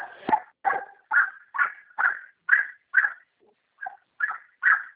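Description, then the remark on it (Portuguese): A pet dog barks and whines in a steady series of about ten short, yelping calls, fairly loud, with brief pauses between them and no one talking. “Não, não, pode ficar tranquila, que eu estou conversando com meu cachorro.”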